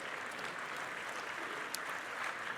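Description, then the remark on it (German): A crowd claps steadily, a dense, even wash of many hands that holds at the same moderate level throughout, with no voices standing out. “Können Sie mal klatschen, es ist lieb gemeint, aber so viel Zeit haben wir nicht.”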